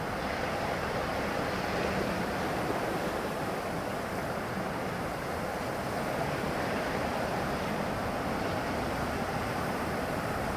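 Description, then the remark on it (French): Heavy ocean surf roars continuously around Macquarie Island, a dense wash of breaking waves and strong swell with wind buffeting the microphone, steady and loud throughout with no voices. “La houle était très forte.”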